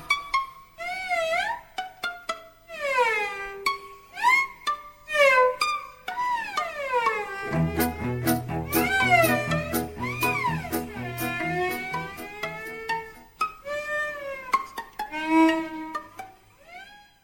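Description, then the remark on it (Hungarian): A cat meows repeatedly in long, wavering, sliding cries, loud, with a low rhythmic pulse entering partway through beneath the yowling. No one speaks. “Csuda zenekar, cincog nyávok, hallagziba a táncot, csak erre járod.”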